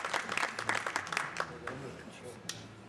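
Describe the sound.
A brief burst of audience applause, a dense patter of claps that thins out and fades after a second or two, with a low murmur of voices underneath.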